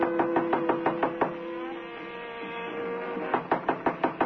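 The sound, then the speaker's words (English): Two bursts of quick, firm knocks on a hotel room door on the 12th floor, about half a dozen each, with a pause between them where faint muffled jazz from a radio inside hums in the background; no one answers. “No one answers the door.”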